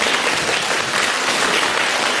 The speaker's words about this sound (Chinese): 让我们用掌声感谢卢台长为我们看图腾。